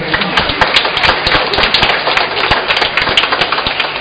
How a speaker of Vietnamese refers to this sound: Hôm nay ông bà anh chị em có thấy ca đoàn truyền tin hát hay không? Hay cho một tràng vỗ tay.